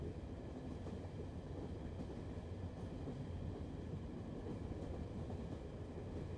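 A train rolls steadily along the tracks, a continuous low, heavy rumble with a faint rattling texture, holding an even loudness throughout with no voices.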